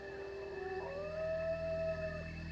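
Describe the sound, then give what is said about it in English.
A single wolf howls in one long, rising-then-steady mournful note that holds for over a second before trailing off, heard alone against a faint steady background hum. “That haunting howl at the moon, yellow eyes glaring at you from behind dark trees, sheep and other livestock missing.”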